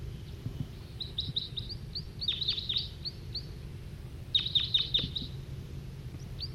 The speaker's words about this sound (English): Another wild bird's coming in, giving flight calls.